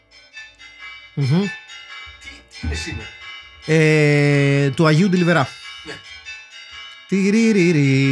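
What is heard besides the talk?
church bells ringing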